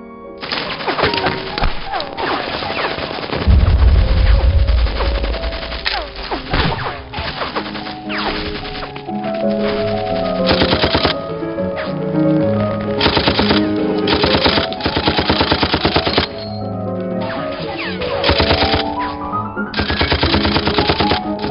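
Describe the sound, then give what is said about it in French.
Rapid, sustained bursts of automatic gunfire crackle almost nonstop, with a deep booming impact early on, all layered over a loud tonal musical score, in an animated film: a firefight between a troop and a child armed with a rocket launcher, on a hot Lebanese summer day under olive trees. “la fusillade entre sa troupe et un enfant armé d'un lance-roquettes”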